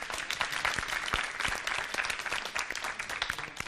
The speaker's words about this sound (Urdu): ایک مرتبہ زوردار تالیاں بجائیے گا آپ لوگ.